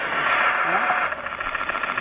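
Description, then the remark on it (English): Harsh, heavily distorted playback from a CD player blares through a small amplifier that looks like a guitar amp, a continuous buzzy rattle that chugs like an idling tractor engine, loud for about two seconds. “It really makes a CD player sound like a tractor, doesn't it?”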